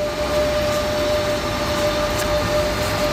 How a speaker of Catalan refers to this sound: I avui, divendres 23 de gener, els trens han tornat a circular.